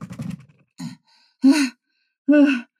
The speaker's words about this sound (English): You look pale and you are panting. Have you been chased? No, I saw a snake.